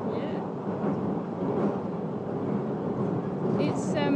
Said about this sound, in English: It's the old orange answer phone lady on this train announcement.